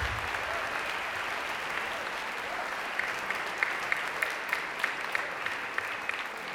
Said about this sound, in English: Please join me as we get started to give our teachers a huge round of applause. They bring the quality, the passion to this, and they make our students the musicians they are today.